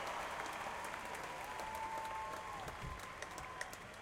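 A concert audience in Jakarta applauds a band after its performance, many claps blurring into a dense, even wash of noise that holds at a fairly loud level throughout, with scattered sharper claps standing out.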